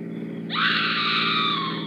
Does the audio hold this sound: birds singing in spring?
no